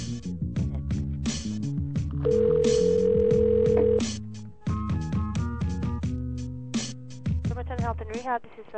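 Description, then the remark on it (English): A phone line rings out on an outgoing call to an old people's home in Seattle at about 7:53 p.m.: one steady electronic ringback tone lasts about two seconds, surrounded by muffled voices and busy line noise. “see if the phone line's working good tonight.”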